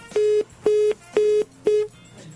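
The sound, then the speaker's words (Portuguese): Four short, evenly spaced electronic telephone beeps sound in a steady rhythm, like a line dialing and ringing through, clear and moderately loud with no one talking. “Vamos tocar então. Pronto, chamou. Chamou.”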